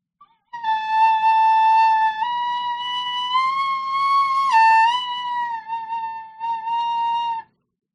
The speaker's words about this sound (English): This is the Irish whistle.